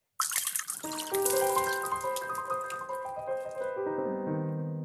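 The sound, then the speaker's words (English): Martinis are poured out steadily for several seconds in front of the bartender who made them, a continuous gurgling splash with shifting ringing tones as the drinks are emptied out. No one speaks. “You're pouring out the martinis.”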